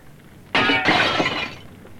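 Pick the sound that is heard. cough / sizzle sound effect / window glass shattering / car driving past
window glass shattering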